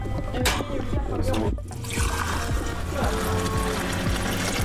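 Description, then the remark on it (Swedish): Water pours steadily into a glass, a continuous splashing trickle with a faint ringing tone, while some indistinct voice or background murmur sits underneath. “Du har fått lite vatten, ser jag. Du ska också ta.”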